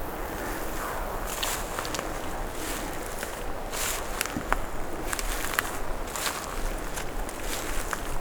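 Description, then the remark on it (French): Slow, crunching footsteps climb a fairly steep slope at an uneven pace, each step a short gritty scrape over a steady hiss of wind. No one speaks. “nous gravissons pas à pas en douceur. Une montée assez raide.”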